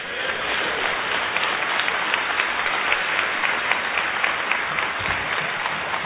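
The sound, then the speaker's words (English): Steady applause from a large audience, a dense rattling wash of many hands clapping at an even loudness for several seconds with no voices over it. “You're clapping, but almost every one of you has a youth ministry in your church that is operating unbiblically.”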